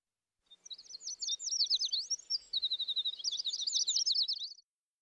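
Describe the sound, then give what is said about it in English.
Birds in Grandpa Pig's garden chirp and twitter in a bright, busy run of quick high notes and trills, lasting several seconds at a steady level with no talking. “Some birds live in Grandpa Pig's garden.”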